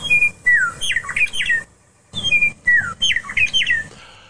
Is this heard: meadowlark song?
yes